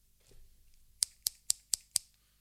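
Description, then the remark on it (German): Scissors lying on a table being handled: five crisp, bright metallic clicks in a steady, evenly spaced rhythm, fairly loud, with a soft rustle just before. “Ja, auf dem Tisch liegt eine Schere.”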